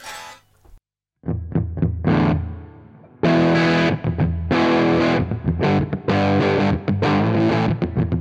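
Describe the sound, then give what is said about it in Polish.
A distorted electric guitar plays chunky chords and short bursts through an overdriven amp, plugged into the upper input 2 (normal channel), the tone thick, fuzzy and dark with rolled-off highs, loud with no voices. “Takie zatykające, vintage'owe, fuzowate, można powiedzieć, więc dajmy więcej prezencji, więcej trebla.”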